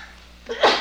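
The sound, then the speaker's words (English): A single sharp sneeze bursts out loudly near the end, preceded by a quick intake of breath, against a quiet background. “Gesundheit.”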